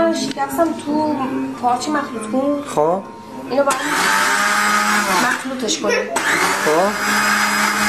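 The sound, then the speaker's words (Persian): An electric blender whirs loudly in steady bursts as it mixes eggs for about three to four minutes, its motor pitch dipping and rising between runs, with a person talking over and between the blending. “آره با مخلوط کن حدود یه 3-4 دقیقه فقط مخلوط میکنیم.”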